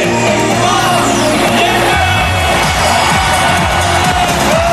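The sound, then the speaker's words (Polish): A crowd of about 100,000 people at the RMF Max New Year's Eve party on the main market square in Kraków, Poland, outdoors in bad weather, cheers and yells loudly and continuously, a dense wall of whoops and shouts with music-like tones from DJs running underneath throughout. “W Krakowie na rynku głównym 100 tysięcy osób bawiło się na Sylwestrze RMF Max.”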